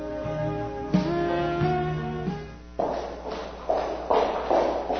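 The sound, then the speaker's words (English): Sustained, ominous tones give way to a steady series of footsteps on a hard street surface, about five clear steps at walking pace, fairly loud. “Imagine walking down the street and hearing footsteps behind you.”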